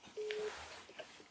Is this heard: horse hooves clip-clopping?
no